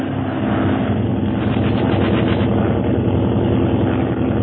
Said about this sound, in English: there's another plane bearing down upon them